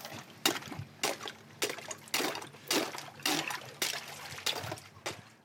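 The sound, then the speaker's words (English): Ice on a freezing pond being broken and cold water scooped out to collect algae: a series of about ten sharp cracking splashes at a steady, slightly uneven pace, with sloshing and trickling between them. “But first thing we've got to do here is actually break the ice.”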